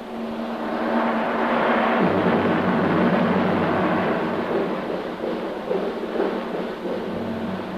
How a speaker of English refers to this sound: There, I believe there's a storm coming up. Somehow I never expected that here.